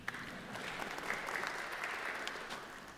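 Steady applause from an audience in a church fills the whole stretch, a dense wash of many hands clapping at even loudness with no voices over it.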